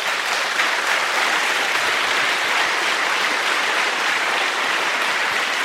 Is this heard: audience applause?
yes